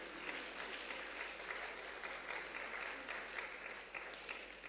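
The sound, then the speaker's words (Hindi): An audience claps steadily for several seconds, a dense, continuous patter of many hands with no talking. “ताली बजाओ प्रेम से।”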